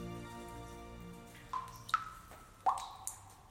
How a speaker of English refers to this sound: There's water dripping from the roof.